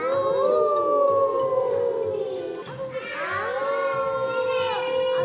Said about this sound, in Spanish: Era de noche y los lobos empezaban a aullar.